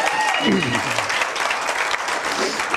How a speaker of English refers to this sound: You can clap. Go ahead.